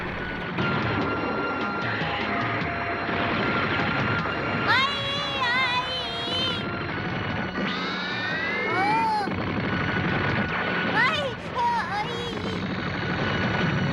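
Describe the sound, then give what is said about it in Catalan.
A loud, continuous barrage of missile explosions and gunfire from missile launchers rising out of the ground in a forest, with whistling tones sweeping up and down through the roar several times as projectiles streak past. “Cusen a trets en Goku, que avança entre un munt d'explosions dalt del núvol.”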